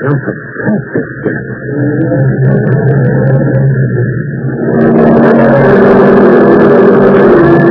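car engine running

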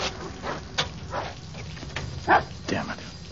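dog barking

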